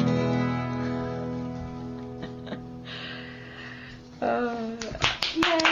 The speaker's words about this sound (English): This is a trick we learned last week. You have to clap, too. It sounds like there are more people here.